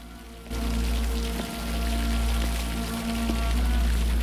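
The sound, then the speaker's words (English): Water pours and splashes steadily onto a hard floor from an overflowing kitchen sink with the taps left on in an apartment, a loud, continuous rushing that starts abruptly after a brief quiet moment. “He looks into the kitchen and sees the taps are on, the sink's overflowed, and water is pouring onto the floor.”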